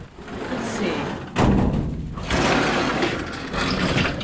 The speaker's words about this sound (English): She pulls out wide metal flat file drawers where she keeps her finished prints.